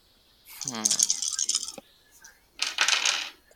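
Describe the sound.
Dice clatter and tumble across a hard tabletop in two bright bursts during a scavenge roll in a tabletop game, the first longer and rattling, the second shorter, with a faint voice briefly underneath.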